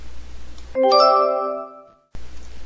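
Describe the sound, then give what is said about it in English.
A doorbell rings once with a bright two-note chime, loud, its tones ringing out and fading over about a second against a quiet hiss. “No one makes cookies like Grandma, said Mom as the doorbell rang.”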